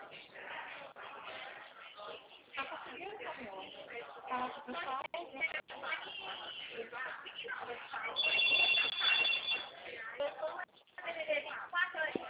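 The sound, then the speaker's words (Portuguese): A brief burst of high, trilling telephone ringing signals an incoming call. It lasts about a second and a half, rising over steady muffled voices and background chatter on a thin, phone-quality line. “Só um minutinho, tá? Tem ligação.”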